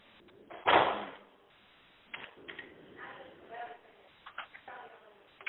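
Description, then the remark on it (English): Keyboard typing by an unmuted participant comes through a telephone call line as a loud clattering burst followed by scattered, irregular key clicks, mixed with faint murmuring voices. “I don't know if the rest of you can hear that sound.”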